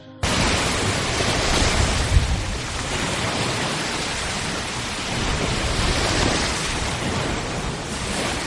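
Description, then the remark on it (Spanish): Waves crash and wash onto a shore in a steady, full roar of surf, with swelling surges rising and falling throughout. No voices, just the continuous rush of the ocean. “Un día, viendo el amanecer con el silencio que te da la montaña, otro viendo terminar la jornada con el sonido de las olas.”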